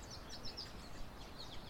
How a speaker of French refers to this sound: Peut-être vous observez que je me suis installée à l'extérieur. Donc vous entendez le chant des oiseaux